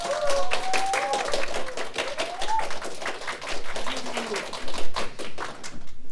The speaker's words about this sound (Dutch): Maar geef ze eerst eventjes een heel groot applaus